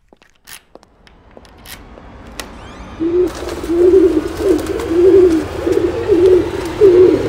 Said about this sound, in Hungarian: galambterror a lakásba.